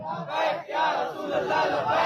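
A large crowd chants "Labbaik ya Rasool Allah" in unison in answer to a speaker's call at a religious speech, loud, in two sustained surging bursts of many voices shouting together.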